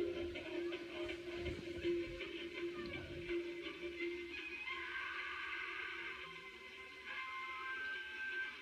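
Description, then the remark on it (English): A train rumbles steadily with a droning hum and faint metallic ticking; about a third of the way in, the low rumble drops away and the sound turns hollower as the train goes into a tunnel in a mountain. “And that was the mountain that the train just went into.”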